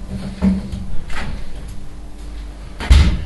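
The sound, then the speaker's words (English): An oven door clunks shut, with a muffled thump near the start and a louder, heavier bang of metal near the end, otherwise quiet. “That's the door to the oven.”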